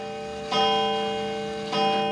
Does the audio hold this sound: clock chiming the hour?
yes